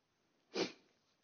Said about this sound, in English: Excuse my sniffing.